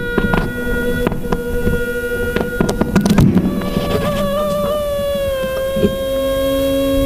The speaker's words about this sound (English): Well, and it's just that tiny microphone on the end of the mosquito there that's picking up the sound as the wings are flapped.